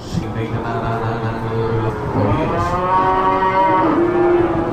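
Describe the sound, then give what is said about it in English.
Many cows, mothers and calves, in the holding pens of a livestock auction, soon to be sold, moo loudly and overlapping, long drawn-out bellows with rising and falling pitch, continuous, with the low murmur of a crowded pen behind them. “Lots of cows in here. A lot of cows.”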